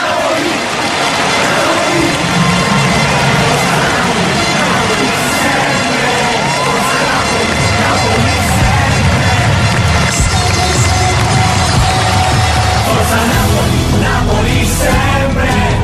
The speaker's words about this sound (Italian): Sento da lontano il grido della gente. Forza Napoli, Napoli sempre. Mi prende piano piano e non mi lascia indifferente.